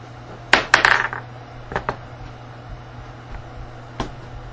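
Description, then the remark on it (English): Dice clatter across a hard tabletop in a quick burst of sharp clicks, settle with a couple of lighter taps, and give one last isolated click a few seconds later over a steady low hum. “Maybe you two need to go dice shopping. Let's see how this one.”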